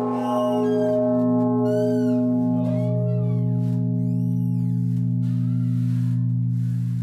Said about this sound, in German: Dieser Anschlag war jetzt von der Propsglocke, der größten Glocke hier mit 140 Zentner, die zweitgrößte der Erzdiözese München und Freising.